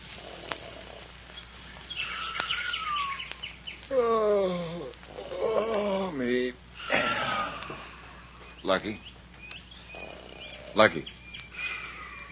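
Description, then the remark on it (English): Sparse bird twittering and chirps at dawn around the hayloft of a large red barn over a quiet background, with a few loud, drawn-out snoring snorts in the middle and another snort near the end. “A few birds are beginning to twitter. Lucky's snoring's their only competition.”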